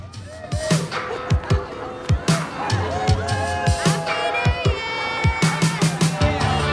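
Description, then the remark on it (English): A lively crowd of revelers celebrates outdoors along an esplanade, with overlapping voices, chatter and shouts layered over a steady, pounding rhythmic beat and bright tonal sounds that carry on throughout. “She ignores the revelers as she walks along the esplanade.”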